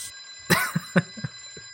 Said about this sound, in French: Et tu appuies, tu entends un bang. Et il y a le téléphone qui se met à sonner.